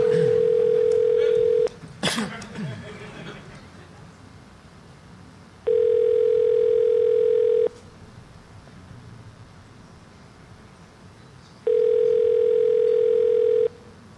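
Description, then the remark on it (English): A telephone ringback tone sounds three times, each steady tone lasting about two seconds with roughly four seconds of quiet between, clear and fairly loud over faint background hiss and a brief clatter. “It's ringing.”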